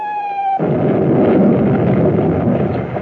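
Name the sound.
bombs exploding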